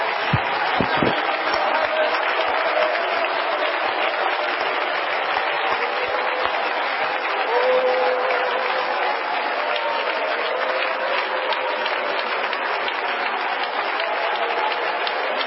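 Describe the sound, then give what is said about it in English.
An audience claps their hands together to praise and glorify the Lord, in a dense, continuous wash of applause that holds a steady, fairly loud level for about fifteen seconds, with no one speaking over it. “Come on, let's clap our hands and glorify the Lord together.”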